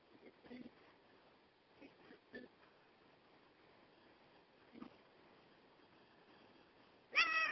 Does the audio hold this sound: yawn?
no